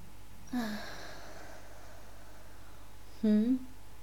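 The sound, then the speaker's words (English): Two slow, deep breaths a few seconds apart, each a soft airy exhale with a low voiced hum like a sigh. The second is louder, and faint quiet fills the gap between them. “Nice deep breathing for me as well.”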